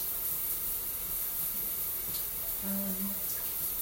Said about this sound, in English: I'm in the shower right now, and my phone died when I was trying to make this.